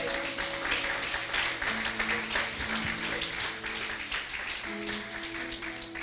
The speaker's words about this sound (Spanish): Dar un fuerte aplauso al Señor.